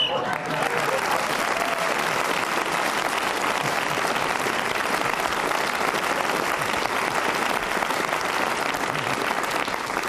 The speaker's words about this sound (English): I don't know why you're clapping that